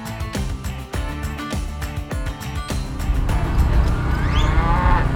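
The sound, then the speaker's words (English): Cattle being worked with stock dogs at the Ag Emotion Livestock Days stock dog trials moo loudly, long drawn-out lowing calls over a busy outdoor background with scattered knocks and clatter, the bellowing growing fuller toward the end. “shares her passion for working cattle with stock dogs”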